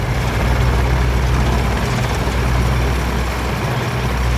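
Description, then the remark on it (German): Heavy machinery rumbles steadily, a deep continuous engine drone of large excavators, trucks and bulldozers building a new dike in Blumenthal, loud and unbroken with no voices. “Große Bagger, Lastwagen und Planierraupen arbeiten dafür jeden Tag.”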